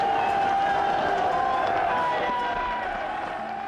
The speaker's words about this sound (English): As the gates of the gasworks clanged shut at 10:45, a great shout of triumph went up from a crowd of about 7,000 people.